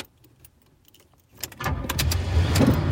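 A few faint clicks and light jingles in near silence, then a car's engine and road noise swell in and hold steady, a continuous rumble from inside a car winding along roads toward the Coromandel Peninsula, turning off the main highway and following signs toward Thames.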